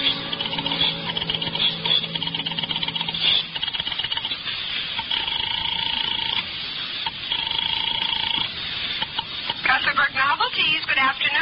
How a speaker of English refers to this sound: picked up the phone, and started to dial the number of Harvey's office